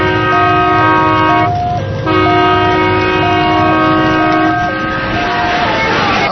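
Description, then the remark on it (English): A loud, repeating fire alarm on a train that has caught fire: steady electronic tones alternate in a looping two-note pattern, pausing briefly once, over a constant low rumble of the moving carriages. “What's that repetitive noise? It's the alarm, sir. The train's caught fire.”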